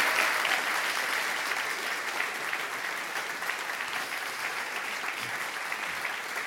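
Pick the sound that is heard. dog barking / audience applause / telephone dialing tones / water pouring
audience applause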